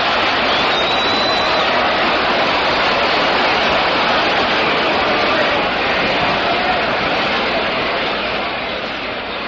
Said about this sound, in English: So Campanella felt one in the left field stands, it just goes in, and it's a 4-3 ball game. And listen to the crowd.